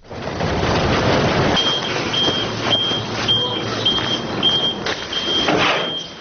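A heavy orange garbage truck rumbles while a steady reversing beeper repeats in regular pulses, with engine noise and clanking in the background, as it arrives at a landfill on the outskirts of Tbilisi, Georgia.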